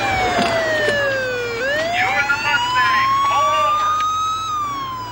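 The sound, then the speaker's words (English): A police car siren wails as it pulls a car over, its pitch falling then sweeping back up in a long rising-and-falling cycle, loud over a low engine rumble with faint background voices. “Why is he pulling us over?”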